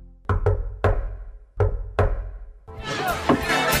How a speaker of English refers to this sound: I didn't hear the secret knock. I did the secret knock. Of course, it's pretty loud in here. Could you do the secret knock again?